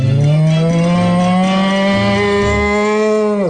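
A bull lets out one long, loud moo, a deep droning bellow that holds steady for over three seconds before sliding down and cutting off at the end.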